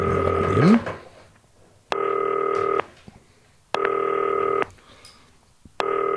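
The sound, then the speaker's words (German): A FaceTime video call to Kevin Möwald rings out: a short rising chime, then three evenly spaced bursts of a steady, buzzy multi-tone ring, each lasting about a second with silent gaps between. “FaceTime-Telefon, ihr kennt das. Ha, 321 Möwald. Es klingelt.”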